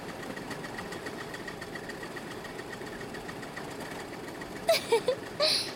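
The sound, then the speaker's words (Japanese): A rail trolley's engine runs with a steady, even drone and a faint tonal hum while the trolley is driven with the brakes applied, broken near the end by a few short, louder bursts. “トロッコもやっぱ鉄道車両なんだね。加速より減速の方がずっと難しい。”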